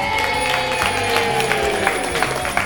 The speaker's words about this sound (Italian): Signori, grande urlo di gioia, ce l'hanno fatta!